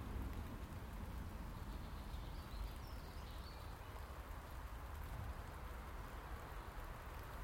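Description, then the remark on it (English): Steady rain falls throughout, a dense, even patter of drops with a low rumbling undertone, fairly soft and unchanging, with no voices. “My tea's cold now, the rain's got into my tea.”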